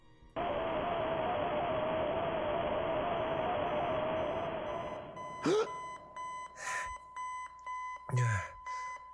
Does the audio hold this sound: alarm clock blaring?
yes